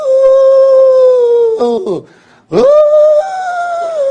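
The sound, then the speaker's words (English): A voice imitates strong wind at sea with long, sustained wavering "ooh" tones, a steady high-pitched moan that dips briefly, then swells back loudly and holds before easing off. “And anybody gone into the sea, strong wind, you know what it sounds like? Ooh!”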